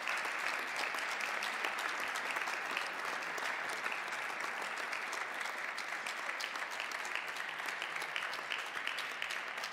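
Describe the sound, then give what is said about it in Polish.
Sustained applause from a large audience at an award ceremony for the winners of the first category, a dense, steady clatter of many hands clapping at even loudness throughout, with no voices standing out. “Z Państwa strony to oczywiście okazja do oklasków dla laureatów tej pierwszej kategorii.”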